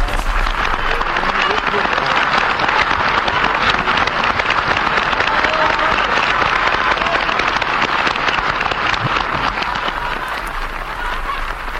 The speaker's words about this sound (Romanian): Vino pe scenă, regele aplaudă.